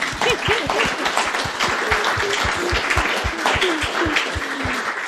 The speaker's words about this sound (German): Ich würde ganz gerne, ganz gerne klatschen.